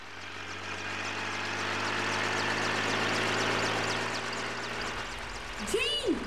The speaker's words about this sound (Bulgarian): Попаднахте тук в кабината на хеликоптера! Не ви чувам!